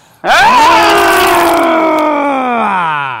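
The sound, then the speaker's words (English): A man's voice imitates a growl, a single loud, sustained rasping roar that starts abruptly and holds for about three seconds with a strained, gravelly, harmonic-rich tone before tapering slightly. “That was like a double-edged growl.”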